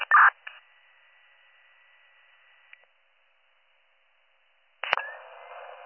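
Radio dispatch alert tones: a steady, high, narrow tone runs for nearly three seconds after a crackly burst, then cuts to silence before another static-filled radio burst with a new tone begins.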